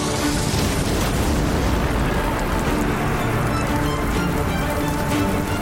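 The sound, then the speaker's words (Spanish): The huge explosion of the French flagship L'Orient in Aboukir Bay, destroyed in battle with the British fleet, roars loud, a dense, crackling rumble that stays at full force throughout without fading, with no voices present. “El buque insignia francés, L'Orient, es destruido en una explosión.”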